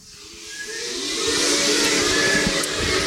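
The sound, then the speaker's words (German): Laboratory machinery hisses loudly with a rising, sucking whoosh of air that swells over a few seconds and holds steady, a faint whistling tone running through the broad rushing noise. “Das Labor zieht und zischt.”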